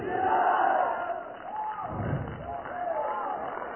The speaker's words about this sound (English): Hallelujah. I like that shouting I hear. I like it. I can hear the sound of shouting. I can hear the sound of worship. I can hear the sound of prayer in this house.